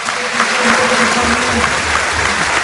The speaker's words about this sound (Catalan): Aviam, que el Girona vol fer un canvi perquè s'ha assegut al terra Miguel Gutiérrez, però vaja, al final qui se'n va del camp és Tati Castellanos, que mireu quina ovació rep.